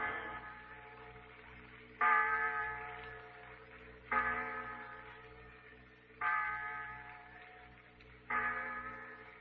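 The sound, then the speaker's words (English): The clock bell in the insurance tower tolls six o'clock in slow, evenly spaced strokes about two seconds apart, each loud, resonant and ringing out before fading into the next. No voices. “The clock in the insurance tower, Pete.”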